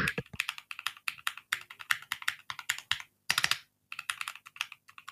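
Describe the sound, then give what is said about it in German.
Steady typing on a mechanical keyboard with linear, non-clicky switches, a rapid run of muted keystrokes with brief pauses, no talking. “Ich habe ja keine so clicky Switches drin, sondern lineare Switches und die sind eigentlich dezent.”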